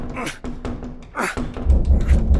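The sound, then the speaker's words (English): Stuck push doors meant to lead outside being shoved: a series of sharp knocks and rattles, then a steady run of four or five dull, low thumps as the doors are pushed repeatedly without giving way. “Try pulling. They're push doors.”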